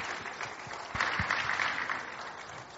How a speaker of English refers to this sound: Please, let's keep clapping for them. Let's keep clapping for them.